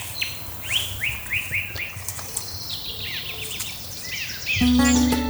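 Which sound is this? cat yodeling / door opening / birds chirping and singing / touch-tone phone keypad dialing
birds chirping and singing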